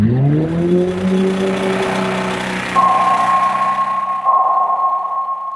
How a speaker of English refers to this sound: The one that we think about a lot with the species I study are the sounds generated from commercial shipping. It's only been about 100 years that these ships have been in the ocean.